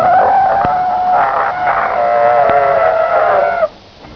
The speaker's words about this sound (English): I gave a basic Belmont an absolute thrashing on our special braking skid pad. Just listen to a full panic stop from 50 miles an hour.